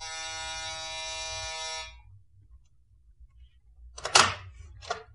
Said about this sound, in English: Penthouse. That's the buzzer over there.